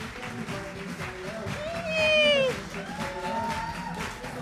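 An audience applauds steadily to welcome a female guest, with scattered whistles and cheering rising over the clapping in the middle before it settles back.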